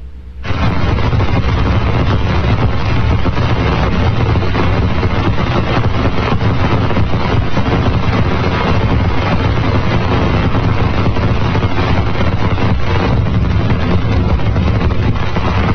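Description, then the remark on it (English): Particles of Saturn's rings striking the Cassini spacecraft as it passes through the rings make a dense, loud crackling hiss of countless tiny impacts that starts abruptly and stays steady throughout, with no voices. “So each one of the little pits that you'll hear is a particle striking the spacecraft.”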